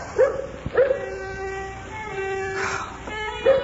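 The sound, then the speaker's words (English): A dog lets out a few sharp yips and whimpering cries against a sustained, high-pitched violin tone played by a boy learning the violin, the yelps bunched at the start and again near the end. “Morgan's the dog, and he's not at all partial to the upper registers”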